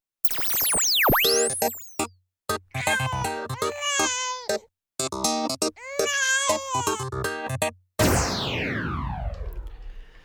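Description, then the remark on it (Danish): A baby cries in a series of loud, wavering wails through a baby monitor, with short pauses between bursts, while sweeping electronic tones play at the start and a noisy swoosh follows. “Så sagde babyalarm noget, lige da jeg spillede den her jingle.”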